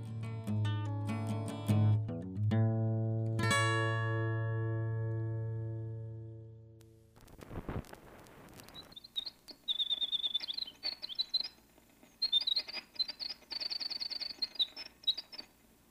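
winter wren song

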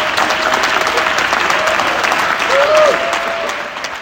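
audience applause

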